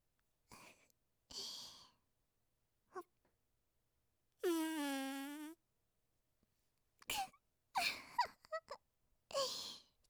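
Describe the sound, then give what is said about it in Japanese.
A long, drawn-out fart sounding like a sustained, wavering buzz of about a second, surrounded by several short breathy gasps and sighs, fairly loud with quiet gaps between. “どうじゃどうじゃ、このわしのおならは数百年も町内で発酵させた至高のガスじゃ。”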